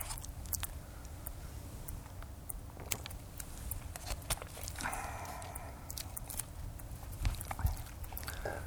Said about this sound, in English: Give me a drink, another drink of water before I do that.